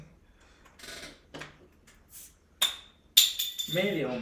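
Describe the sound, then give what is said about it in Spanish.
A few sharp clinks and scrapes of metal against a glass bottle as someone struggles to pry it open, with people talking over and around the noises. “Ah, la botella.”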